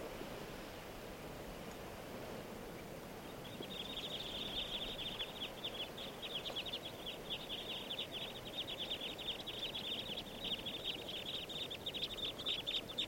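flock of birds calling

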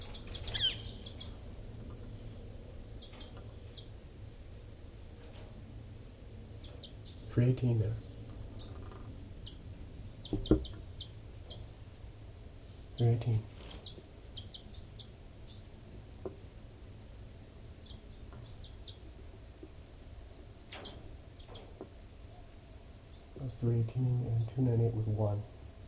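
caged birds calling

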